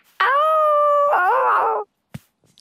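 A dog lets out one loud, drawn-out howl lasting about a second and a half, steady at first and then wavering in pitch before cutting off, followed by a brief soft knock.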